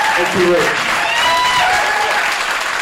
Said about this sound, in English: So for one last time, can I get a round of applause